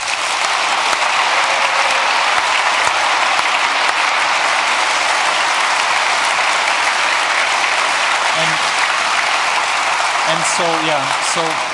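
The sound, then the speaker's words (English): Sustained audience applause for conference speakers, a dense steady wash of clapping from many hands at even loudness, with a few brief voiced sounds or whoops surfacing near the end. “So, but a big applause for our speakers because the content here was really outstanding this year.”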